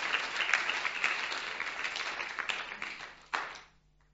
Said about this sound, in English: Weren't they fantastic? Round of applause for my lovely volunteers.